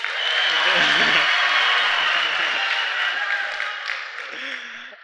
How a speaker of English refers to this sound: So can I ask us by the count of three to give him the loudest cheer that you can to encourage him to run faster? Can we do that? Okay, 1, 2, 3.